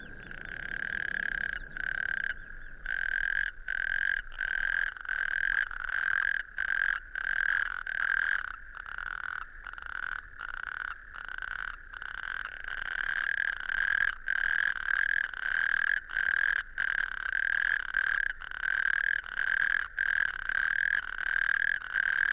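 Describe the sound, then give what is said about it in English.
Toads call in a loud, continuous high-pitched trill that runs almost unbroken, with brief rhythmic dips, steady with no voices. “The memory of the swan song of the toad.”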